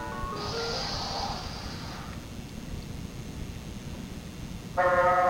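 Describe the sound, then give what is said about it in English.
Two honks of a cartoonish truck horn in a Gumby cartoon: a long, bright, buzzy blare in the first two seconds, then a short, loud second beep at the very end, over a low continuous rumble. “Beeping the horn, and that flattens them out and makes them all bubbly.”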